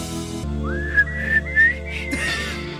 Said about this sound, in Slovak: skúsim zapískať. No, tak skúsil.